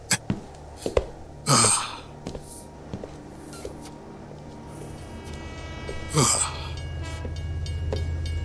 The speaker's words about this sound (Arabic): يبدو أنك ستستضيفينني الليلة يا محطتي العزيزة بجوار صديقي القديم القطار العجوز كما اعتدنا أن نفعل.